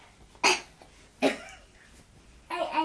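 child coughing

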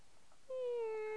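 cat meowing

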